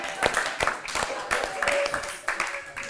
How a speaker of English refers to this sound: Clap for my wife's love of coffee.